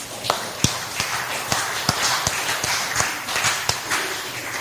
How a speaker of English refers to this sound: The online people can't hear you. Let's give God a mighty hand clap. Praise the Lord.